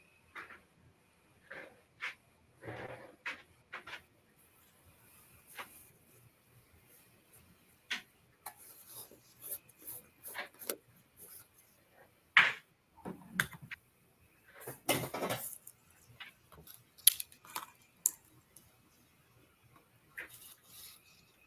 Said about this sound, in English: Yeah, my chair got wheels on it. So look, I rolled around.